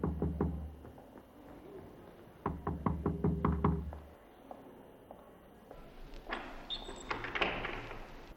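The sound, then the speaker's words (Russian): Two bursts of sharp, fairly loud knocks on the door of a room on the second floor, a quick series of raps, a short pause and more knocking, then softer shuffling and movement as two people enter the room. “стучит, и оба входят в комнату.”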